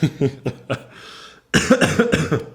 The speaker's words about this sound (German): Entschuldige, jetzt hätte ich mal husten müssen.